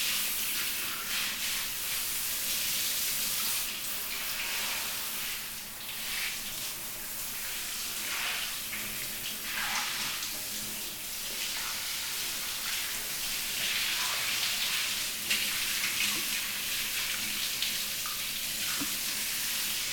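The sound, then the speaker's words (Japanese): Shower water runs steadily for the whole stretch as it is used to wash a person's body, a dense, hissing spray with bright high-end texture and small shifts in intensity as the stream moves. No voices are heard. “シャワーを使っていきます。”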